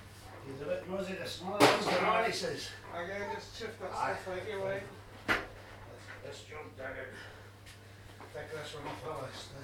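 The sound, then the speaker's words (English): A front door opens and closes, marked by two sharp knocks a few seconds apart, fairly loud, while people keep talking throughout. “That'll be the door then, eh?”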